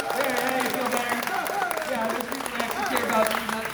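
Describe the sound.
An audience claps steadily, a dense patter of many hands that stays fairly even in loudness, with voices talking and calling out over the applause.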